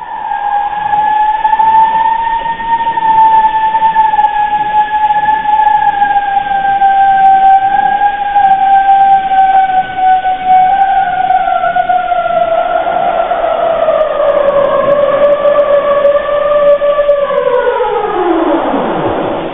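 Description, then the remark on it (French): A recording of a glacier breaking apart into icebergs, sped up 30 times: a steady, loud, siren-like tone with a fainter overtone, drifting slowly lower in pitch before bending into a steep downward sweep at the end. No voices. “La réponse était bien iceberg.”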